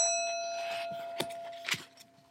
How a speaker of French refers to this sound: Le départ fut donné par une sonnerie.